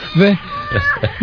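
A short cat meow with a rising-then-falling tone, followed by a few softer, murmured vocal sounds in a brief, muffled recording.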